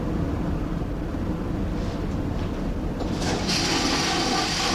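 A ferry toilet, flushed by pressing down a lever, flushes with sea water in a loud, rushing whoosh over a steady low mechanical rumble, the rush swelling brighter and stronger partway through and continuing to the end.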